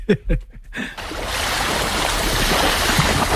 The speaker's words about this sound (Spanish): Olas. Muy bien, correcto. Olas, el mar, sí, muy bien.